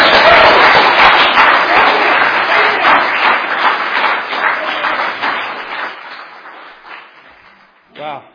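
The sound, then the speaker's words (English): A crowd bursts into sustained applause for the speaker's wife, loud dense clapping that gradually thins and fades over about seven seconds, followed by a brief burst of a voice at the very end. “And so we've been married 20 years, and I just want to give her, not me, her a round of applause.”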